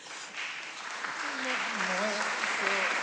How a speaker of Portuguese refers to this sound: Palmas no fim aos dois.